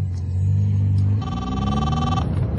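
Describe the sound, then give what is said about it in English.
A car phone gives a single steady electronic ring lasting about a second, heard over the constant low rumble of an idling car engine. “Where are you ringing from?”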